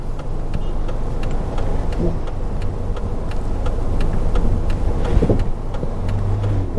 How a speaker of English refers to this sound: making sure I don't crash into anybody doing this. So I was just all waiting for these cars to make up their mind what they're doing at this intersection.